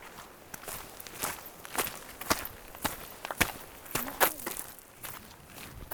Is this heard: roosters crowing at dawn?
no